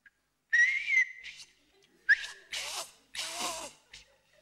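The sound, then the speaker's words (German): A person whistles a few short, breathy notes, the tone wavering and mixed with airy hiss, broken into several bursts rather than a smooth melody. No one speaks. “Können Sie überhaupt pfeifen?”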